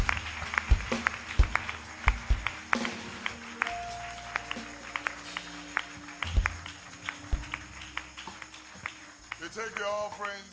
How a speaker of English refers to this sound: Amen. Clap your hands.